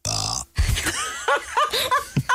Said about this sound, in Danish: Er det en bøvs, eller hvad kommer der først? Det lyder som slutningen af en bøvs. Lad os lige høre igen.